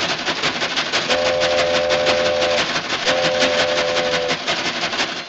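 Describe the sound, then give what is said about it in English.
A train sound effect: a train rumbles and clatters steadily and loudly along the tracks, while two long horn blasts sound one after the other over the rhythmic noise. “Need to catch a train?”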